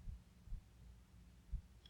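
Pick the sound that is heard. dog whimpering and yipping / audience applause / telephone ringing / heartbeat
heartbeat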